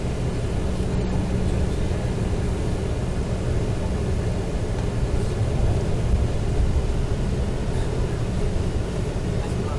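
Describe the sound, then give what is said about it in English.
A steady, continuous low rumble of a bus driving from the airport past Levi's Stadium, road and engine noise filling the whole stretch at an even level with no talking. “on the bus coming from the airport, and there is Levi's Stadium.”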